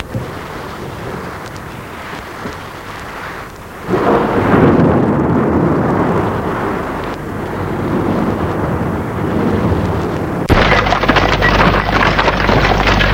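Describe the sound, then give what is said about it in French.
A heavy thunderstorm with deep, rolling thunder rumbling over steady rain and wind, swelling loudly around the middle and again near the end, with no voices. “L'orage est toujours aussi fort.”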